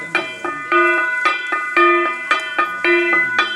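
A small gong struck over and over in a steady, lively rhythm, its bright metallic tones ringing and alternating between a higher and lower pitch, with no voices.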